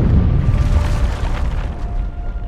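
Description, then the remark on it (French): A briefcase bomb explodes in the hold of an airliner flying from N'Djamena to Paris with 170 people aboard, about three quarters of an hour after takeoff: a loud, deep blast that rolls on as a heavy, steady rumble for a couple of seconds, with a faint tonal hum beneath and no voices. “Environ trois quarts d'heure après le décollage, une mallette piégée explose dans la soute.”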